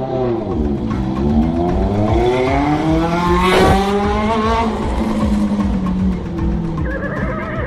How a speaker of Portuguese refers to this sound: Divino recebe as ordens do prefeito Raposa e invade a chácara de Gilmar com sua motocicleta em alta velocidade.